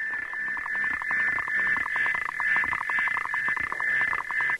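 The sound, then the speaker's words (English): A male and a female frog call together in a duet: a steady, piercing high-pitched trill runs throughout while a second voice adds fast, rhythmic tapping pulses, loud, with no talking. “So there are two frogs singing in that.”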